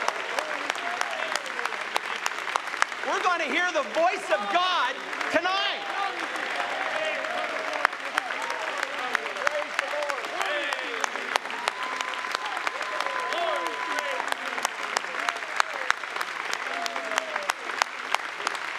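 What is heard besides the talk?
audience clapping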